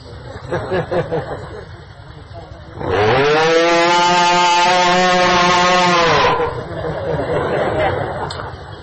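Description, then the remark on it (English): A cow lets out one long, loud, drawn-out moo lasting a few seconds, with a murmur of crowd chatter before and after it. “That one mooing of a simple cow is more pleasing to Krishna than everything we could possibly do in our lives, because they are mooing in pure unalloyed devotion.”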